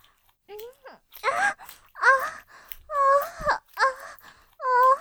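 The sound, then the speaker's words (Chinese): A baby cries in a series of loud, wailing bursts, each rising and falling in pitch with short catches of breath between them. “主人的孩子哭了，快去给他喂奶，快去。”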